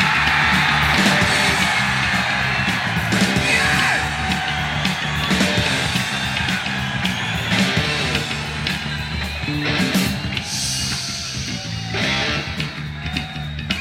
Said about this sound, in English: Okay, look, that's okay for the first couple of rows here, but I mean, the rest of you are going to do it as well, right? So, let's make a real noise, let's see, let's take this roof off. 4,000 screaming animals!